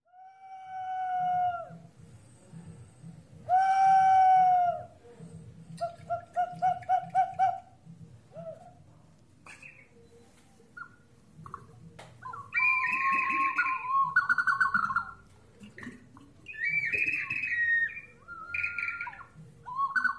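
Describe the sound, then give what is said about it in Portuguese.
Ceramic Inca whistling vessels (huacos silbadores) made in Cusco, Peru, driven by water moving through their interiors, sound a series of shrill, warbling bird-like whistles and chirps, some rising and trilling, over a soft, continuous low gurgle of water. No one speaks. “Estes são os sons dos huacos silbadores, ou vasos assobiadores, feitos no Cusco, no Peru, e tradicionais da cultura inca.”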